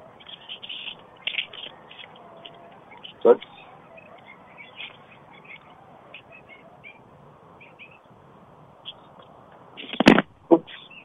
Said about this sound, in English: There's about 10 coyotes over in the distance. Right behind our backyard, there's a 24-acre park. Okay, before I start rooting, I wanted to... Those coyotes.